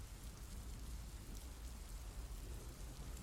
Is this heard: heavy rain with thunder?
yes